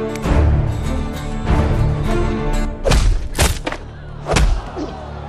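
A few dull thuds of a head banging against a desk, irregularly spaced, with two close together, over a steady droning musical background with no talking.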